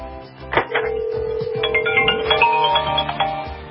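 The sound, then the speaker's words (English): A cell phone placed inside a microwave oven rings: a steady electronic tone gives way to a repeating melodic ringtone pattern, moderately loud and continuous for a few seconds with no clear talking over it. “It's ringing.”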